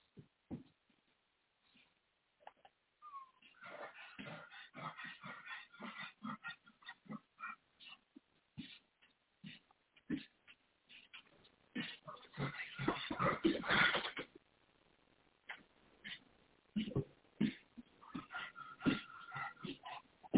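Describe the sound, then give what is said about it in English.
A dog lying down breathes heavily, with irregular wheezy, snorting breaths that sometimes sound almost pig-like, growing louder and rougher for a stretch before settling back. “He's breathing very heavy, huh?”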